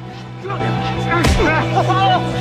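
A man is kicked on the ground: one heavy, sharp thump stands out amid a scuffle, with pained cries and grunting voices over a steady low hum.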